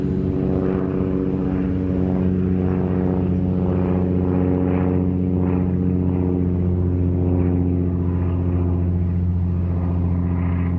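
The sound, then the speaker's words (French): A steady, loud airplane engine drones throughout, a deep harmonic hum with a constant rumble, like a propeller plane running up or taking off on a flight to Senegal after passengers board, with no voices. “Nous passons les contrôles de sécurité et nous montons dans l'avion. Attachez bien vos ceintures.”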